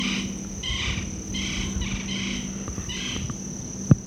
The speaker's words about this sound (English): Two woodpeckers. There's a third.